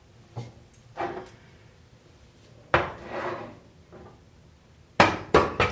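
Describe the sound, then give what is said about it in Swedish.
A saucepan of quinoa is lifted off a switched-off stove amid a series of sharp metallic clanks and scrapes, several bright knocks spread irregularly, with a final cluster of quick clatters at the end. “Och så lyfter vi av kastrullen.”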